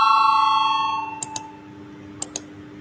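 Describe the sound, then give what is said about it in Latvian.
A parliamentary call bell rings before a vote on a deputy's proposal, with a sustained, clear tone that fades out over about a second, followed by two pairs of soft clicks. No one speaks. “Lūdzu zvanu balsosim par 27. deputāta Valaiņa iesniegto priekšlikumu.”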